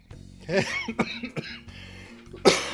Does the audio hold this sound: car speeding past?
no